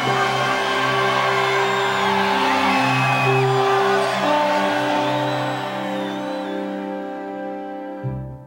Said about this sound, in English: the large group approached the well. The woman who had left her water jar was leading them. We could hear her voice above the crowd.